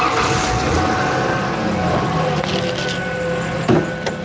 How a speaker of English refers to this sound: because there's a really bad, like, high-pitched sound, like wee wee wee wee wee. I'm gonna start up the truck so you can hear it.